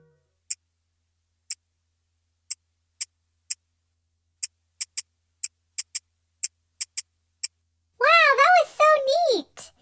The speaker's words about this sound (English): Hold on a second. I bet if I hold my watch up to the microphone, you can hear it ticking.